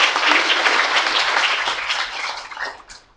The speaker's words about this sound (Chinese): 谢谢你，谢谢刘传道的分享，来到这边给伊掌声。